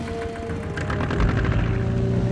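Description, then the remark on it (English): A boat's outboard motor catches and revs up as Rambo fires it up and adjusts the tiller, its rapid pulsing putter building into a loud, steady engine drone with a low hum underneath, as the boat plows through river water. “With a sullen glare, Rambo fires up the boat's motor and adjusts the tiller.”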